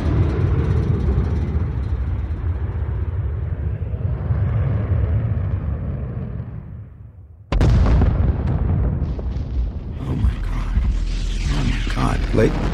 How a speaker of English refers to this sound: I don't want to alarm anyone, but I'm clearly a bit rattled here, and just I watched what appeared to be an Air Force fighter jet just crashing and exploding into Jericho Mountain.